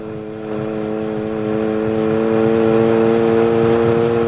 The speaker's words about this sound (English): Is the sports car passing us? Yes, it is.